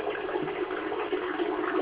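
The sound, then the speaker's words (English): A toilet flushing: a steady, continuous rush of water with a slightly gurgling texture, holding an even level throughout with no voices. “There goes up in this toilet.”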